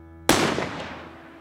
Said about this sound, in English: So I went after them. And that's when I heard a gunshot.